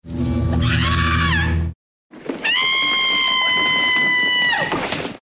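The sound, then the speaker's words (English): Two separate high-pitched women's screams played back one after another with a short silence between: the first, Jessica Walter as Lucille Booth, wavers and breaks; the second, Blanche Barrow's, is a long sustained shriek that drops off at the end. “And I want to play two screams for you, and I want to see if you can guess who is Lucille Booth and who is Blanche.”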